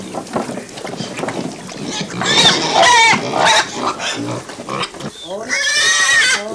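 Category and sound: animal, pigs grunting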